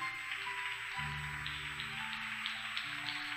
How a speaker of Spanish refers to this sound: Gracias. Se puede sentar. La iglesia dé un fuerte aplauso por todos ellos.